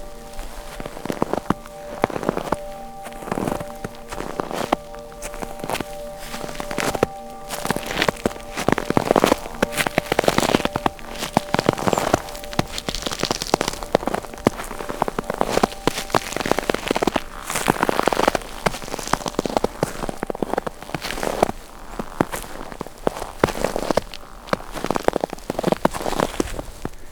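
Steady footsteps crunching through powdery snow in winter, each step a dry, crisp, papery crunch, repeating at an uneven walking pace throughout, with no voices and a faint steady hum underneath early on.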